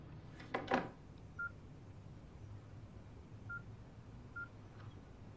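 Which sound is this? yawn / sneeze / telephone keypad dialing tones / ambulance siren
telephone keypad dialing tones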